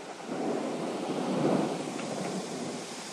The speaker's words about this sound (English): And I was sitting here with the window open. We're down by the Potomac on King Street. And all of a sudden the wind starts blowing real bad and it's now thundering. So I wanted you guys to check it out.